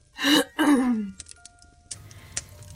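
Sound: throat clearing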